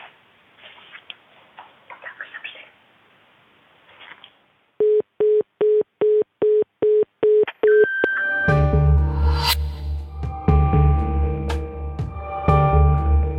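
A run of about eight short, evenly spaced electronic answering machine beeps, steady in pitch and clearly loud, follows a stretch of faint rustling and leads straight into music.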